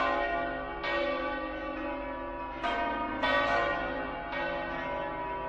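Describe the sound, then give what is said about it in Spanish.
The church bells of the Almudena in Madrid, Spain, ring out in the morning at 9:30 with repeated overlapping strikes, roughly five clear hits over a sustained, shimmering wash of lingering tones, loud and resonant with no voices. “Así sonaban las campanas de la Almudena esta mañana a las 9 y media.”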